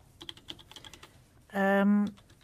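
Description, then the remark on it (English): Quick, irregular clicks of someone typing on a laptop keyboard that does not work, fairly light, followed by a loud, steady electronic beep lasting about half a second. “This keyboard doesn't work at all.”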